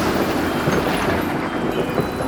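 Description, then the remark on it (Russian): A steady, loud wash of rain and gusting wind fills the scene, a dense continuous hiss with no speech and no distinct breaks. “Дождь!”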